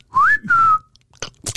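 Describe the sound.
A person gives a short, clear two-part whistle, the first note swooping upward and the second gliding gently down, followed by a couple of brief crunchy rustles.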